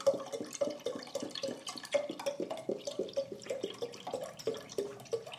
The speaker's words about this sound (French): Je précise que c'est du lait qui est versé dans une casserole parce que le bruit... C'est du lait dans une casserole. Voilà.